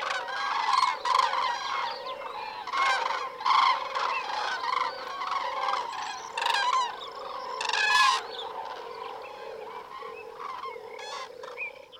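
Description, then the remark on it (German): A dense chorus of harsh, honking bird calls overlapping continuously, with repeated loud bursts rising above the din, like large flocks of migrating birds squawking over Caballeros, with no voices present. “Während dieser Tage kann man das Gekreische dieser vielfältigen Gruppen, manchmal mit unglaublicher Lautstärke, überall in Caballeros hören.”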